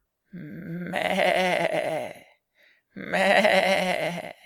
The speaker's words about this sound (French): Ça... C'est la chèvre.